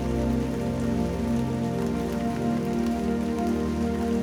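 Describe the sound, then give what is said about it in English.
Steady rain patters on a hard surface, an even, continuous hiss of drops at constant loudness, with a low sustained tonal hum running underneath throughout. “See the rain and feel the deep memory of rain in your body.”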